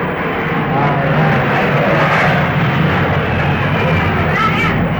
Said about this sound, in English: Yeah, there's lots of planes going over here. Is this municipal airport? Yeah, this is an airport here. Well, I mean a plane, where the plane goes over. And they are sometimes 10 and 12 a day goes over here.